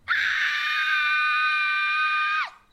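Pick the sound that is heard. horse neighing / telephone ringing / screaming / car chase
screaming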